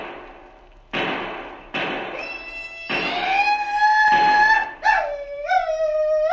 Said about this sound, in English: Hey, what's that? Madre mia. Looks from here as if your cattle are being stampeded, Colonel. That was a Sioux war whoop if ever I heard one.